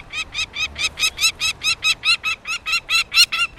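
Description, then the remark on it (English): A peregrine falcon gives a rapid, harsh series of about fifteen evenly spaced loud calls, a steady cacking rhythm with no voices. “Peregrine falcon, the fastest bird on Earth.”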